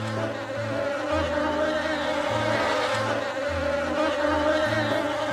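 A dense swarm of about 160,000 bees kept in a house attic in Branchburg buzzes steadily, a thick droning hum with shifting pitches layered together, continuous and loud for the whole stretch with no voices.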